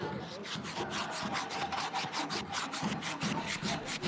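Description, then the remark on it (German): Steady back-and-forth scratchy strokes of sandpaper rubbing on a wooden spoon clamped in a workbench, fairly loud, repeating in a quick even rhythm with no talking. “Also hier spanne ich das jetzt den Löffel in die Werkbank ein, um dass ich das hier jetzt gut schleifen kann.”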